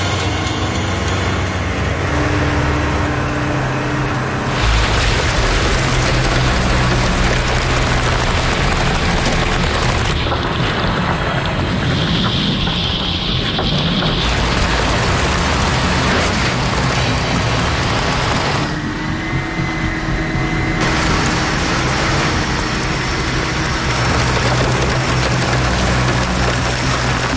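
A heavy truck ploughs through a deep water hole, its engine roaring loud while water churns and sloshes around it in a steady, unbroken rush, with no voices.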